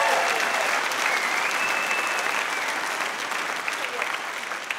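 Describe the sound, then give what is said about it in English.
A crowd gives a round of applause for a 67-year-old man, clapping steadily for about five seconds, a dense, even wash of clapping that holds its loudness throughout before easing slightly near the end. “Fucking give him a round of applause.”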